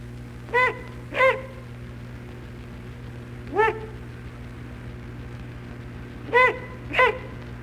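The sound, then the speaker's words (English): Five sharp, bark-like alarm hoots from an adult great horned owl, given when its nest or young are threatened, delivered as a quick pair, a lone call, then another pair, over a steady low background hum. “When nest or young are threatened, adults make bark-like hoots.”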